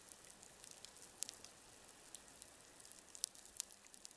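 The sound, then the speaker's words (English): Underwater reef ambience recorded by hydrophones before seismic surveying: a dense, steady crackle of feeding shrimp and fish, with occasional sharper clicks and pops standing out from the fizzing background, all fairly quiet and continuous. “This is the reef before seismic surveying, the sound of fish and shrimp feeding.”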